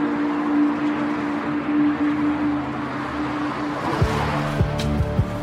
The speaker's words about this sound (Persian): تاکسی شوهر اکرم و بزرگراه در حال حرکته.